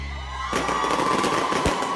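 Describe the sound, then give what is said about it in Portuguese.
A firework rocket bursts with a sharp bang amid a loud, crackling roar of noise, with a crowd cheering underneath and a steady high whistle-like tone running throughout. “Escuta aí o barulho do foguete.”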